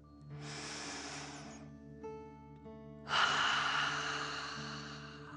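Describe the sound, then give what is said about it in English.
A deep breath drawn in slowly through the nose, filling the belly, then a brief pause before a longer, stronger exhale rushes out, both airy, over a soft steady background hum. “Remember to breathe in through your nose, filling up your belly, and then out, pretending you are breathing fire. Deep breath in and out.”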